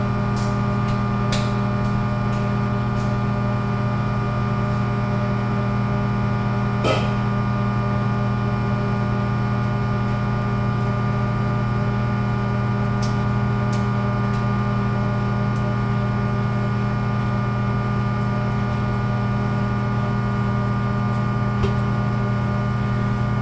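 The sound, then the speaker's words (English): A microwave hums steadily while a few scattered pops break through, the first kernels of popcorn starting to burst. No one is talking. “Popcorn started to pop.”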